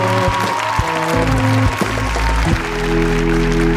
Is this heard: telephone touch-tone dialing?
no